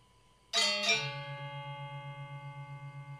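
Two quick metallic strikes from a Balinese gamelan gong ensemble ring out, then a deep gong tone sustains with a steady, pulsing shimmer that slowly fades. No voices are heard.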